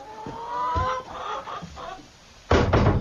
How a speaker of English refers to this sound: these ones here are the chickens Mr. Sowerby raised for slaughter, for eating